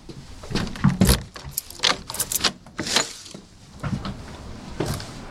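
Official keys jingle and scrape in the lock of the front door under the portico of a historic house estate, followed by clicks and the clunk of a heavy door latch opening, with faint shuffling around it.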